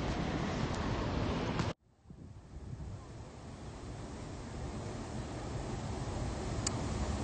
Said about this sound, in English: We are sat at Oxara Foss, which is a very noisy waterfall with quite a few tourists,